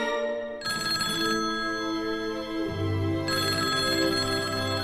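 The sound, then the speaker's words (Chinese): A home telephone rings with a melodic electronic ringtone, its notes shifting every second or so, loud, playing continuously on its own with no one talking. “妈妈不在家，我连电话都接不了，哎，真没用。”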